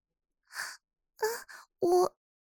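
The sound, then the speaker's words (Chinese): Heavy panting breaths, four breathy, voiced exhalations with a moaning edge, coming in uneven bursts with short pauses between them and no talking. “你的脸怎么这么红啊，一副大喘气的样子。”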